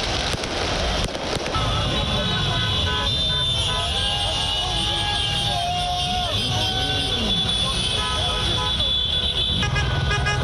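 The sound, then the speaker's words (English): Car horns honk over and over as Paris Saint-Germain football fans celebrate their team reaching the UEFA Champions League final after a 3-0 win over Leipzig, sustained tones overlapping through a dense wash of traffic and crowd noise, with indistinct voices in the background. “The fans blared car horns and waved PSG flags and jerseys after the 3-0 victory against Leipzig of Germany in Lisbon, Portugal.”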